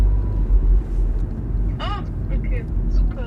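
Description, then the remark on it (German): Steady low rumble inside a car driving on the way back, a continuous deep drone filling the whole stretch, with a few brief higher voice sounds rising over it. “Wir sind jetzt mit dem Auto auf dem Rückweg”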